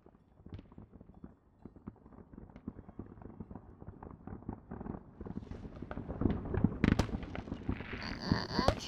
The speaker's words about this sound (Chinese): 不知道对着烟花许愿有没有用？